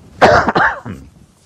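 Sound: cough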